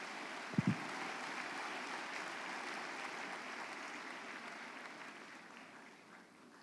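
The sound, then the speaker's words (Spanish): Sustained applause from a crowd at a religious gathering, given for the Lord, a dense steady clatter of many hands clapping that holds for several seconds, with a couple of sharp thumps near the start, then slowly tapers off. “Y los vagos, vamos a dar un aplauso al Señor también, por si acaso.”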